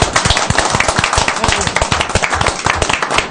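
A brief burst of applause from a small group for the writer of a panto play for radio, with dense, overlapping claps rattling steadily at a fairly loud level for a few seconds.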